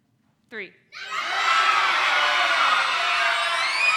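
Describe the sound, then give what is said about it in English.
A single voice calls out briefly, then an audience bursts into loud, overlapping yelling all at once, shouting out their favorite part of the day, a dense jumble of shouted words that stays strong and sustained to the end. “And when I say 3, I want you to yell at me what your favorite part of the day was, okay?”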